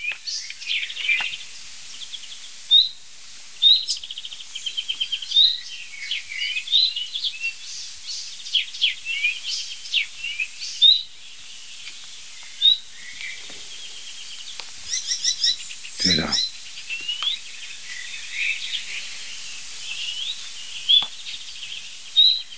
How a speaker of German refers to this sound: Nein, das ist die Nachtigall.